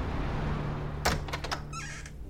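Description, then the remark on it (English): An office door at FBI Headquarters in Washington, D.C. opens indoors: a few sharp latch clicks and knocks, then a short rising hinge squeak, all over a steady low room hum. No talking. “That's pretty much what you said the first time you walked through this door.”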